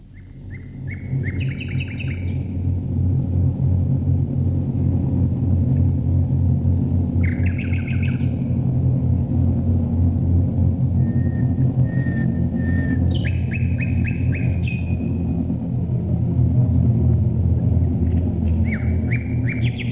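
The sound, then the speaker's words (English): A deep, steady droning thrum of heavy bomber aircraft engines passing overhead fills the whole stretch, loud and continuous, while birds chirp and trill in short bursts above it. “its song to the heavens and trying to compete with the thrum of the bombers as they go over.”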